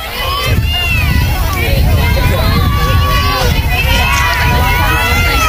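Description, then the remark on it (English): A steady crowd murmur of North Henderson fans supporting their Knights at a softball game, with overlapping chatter and scattered higher voices and shouts running through the whole stretch at a constant, fairly loud level. “Good crowd here, considering the season that North Henderson has had.”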